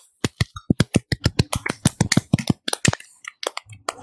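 A small group claps for about four seconds, sharp crisp handclaps landing in a quick, uneven patter, with no voices over them.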